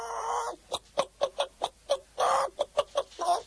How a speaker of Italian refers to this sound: È il momento di presentarla. Questa è la gallinella di Staffolo